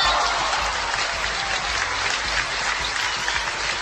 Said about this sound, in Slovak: Čapkajte mi, budem sa vám ukláňať, lebo no co vám budem vypráviať? Potlesk mám velice rád.